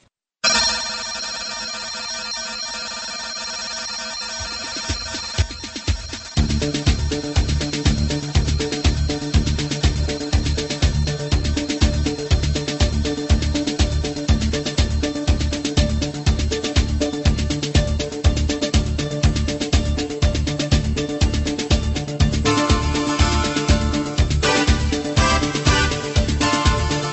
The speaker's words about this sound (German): Danach ist über eine geraume Zeit der Keyboard-Rhythmus dit di di di da dit zu vernehmen.